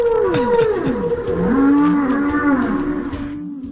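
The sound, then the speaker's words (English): A blue whale's long, low moaning call sweeps up and down in pitch, rich with harmonics. It carries steadily for nearly four seconds, loud, with no talking. “That was a blue whale we just listened to.”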